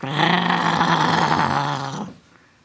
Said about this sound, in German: Plötzlich dringt ein dumpfes Knurren vom Höhlenende an ihre Ohren.